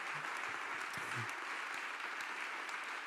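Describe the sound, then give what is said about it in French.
Steady audience applause for four authors and translators at the end of a literary jukebox, a dense crackle of many hands clapping at an even, sustained level for the whole stretch, with no voices standing out. “Je crois qu'on peut vraiment les applaudir chaleureusement.”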